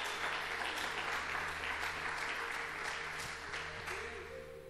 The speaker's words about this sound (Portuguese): Será que você pode aplaudir ao Senhor?